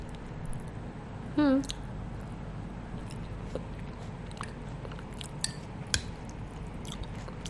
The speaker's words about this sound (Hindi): जो मैं खाना चबा रही हूँ ना, the food I am chewing, I am gonna spit on floor.